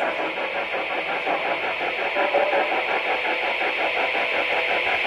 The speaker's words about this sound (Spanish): En el momento que se va a escuchar una alarma